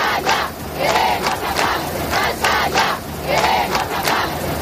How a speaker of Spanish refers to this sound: Tal día como hoy se organizaron concentraciones y manifestaciones por todo nuestro país con un grito unánime.